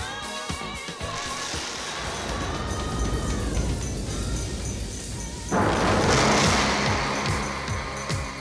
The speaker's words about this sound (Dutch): Wees gerust, het onweert buiten niet. Het geluid komt uit uw radio.